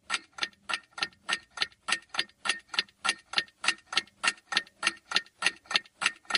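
clock ticking

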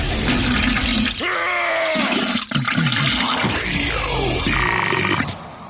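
toilet flushing

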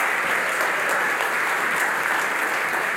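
audience applauding the choir

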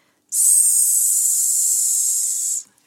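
snake hissing

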